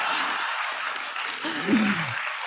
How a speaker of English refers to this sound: And, you know, don't applaud when I say this. We're recording in San Francisco, California. Thank you for your restraint. No, one person started applauding. It wasn't a test.